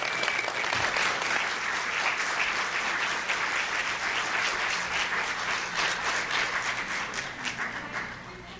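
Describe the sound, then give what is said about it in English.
A crowd applauds steadily for about eight seconds, a dense, continuous wash of many hands clapping that holds loud throughout and eases only slightly at the end, clapping for children as they come in. “So I want you to give them a hand as they come in, just clap for our kids and the stars they go to do.”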